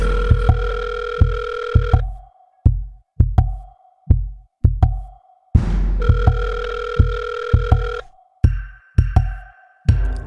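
An outgoing call's ringback tone sounds in steady two-second bursts with a pause between, over a punchy, repeating low drumbeat that keeps going throughout.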